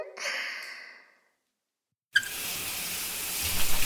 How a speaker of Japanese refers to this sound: それじゃあ目つむってね。シャワーで流していきまーす。